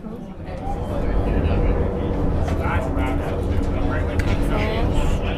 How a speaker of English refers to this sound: It's not unlike riding the subway, except the cage goes down. And the lights that we're passing, you'll notice there's every couple seconds there's some light that we pass. Yeah. So that's from the levels. There's a level about every 200 feet.